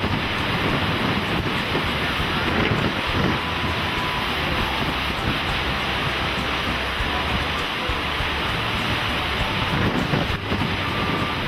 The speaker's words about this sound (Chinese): 海浪攀上岸滩的呼呼风中掺杂着沙子，吹在人的脸上身上，似乎在诉说着那一个个无奈的故事。